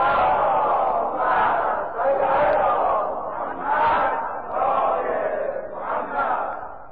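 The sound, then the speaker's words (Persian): A large crowd loudly chants salawat in unison for the Prophet, voices swelling and falling in about five rhythmic waves over several seconds, a dense continuous roar of many people. “انشاءالله که همیشه صلوات همون رو بلند بفرستیم، یه صلوات بلند خواهد کنیم.”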